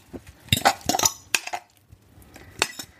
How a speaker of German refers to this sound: Kommt noch ein bisschen Öl hinzu. Ich nehme jetzt in dem Fall ein bisschen Olivenöl. Dann warte ich erstmal, dass die Pfanne ein bisschen heiß wird. So, und dann gebe ich jetzt mal mein Omelett hier rein.